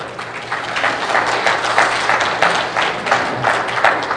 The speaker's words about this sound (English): All right. Yeah, you can clap.